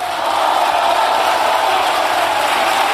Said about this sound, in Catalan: Sánchez ha estat llargament ovacionat, com escoltàvem, pels diputats del seu partit, a qui ha anat saludant un a un mentre abandonava l'hemicicle.